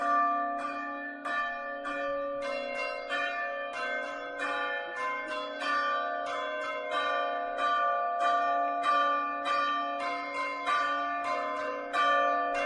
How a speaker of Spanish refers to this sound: Antes de nada, vamos a escuchar cómo suenan esas campanas en caso de que superen esos 35 grados con esta pieza, con este toque que ha compuesto Rosalina. Así suena.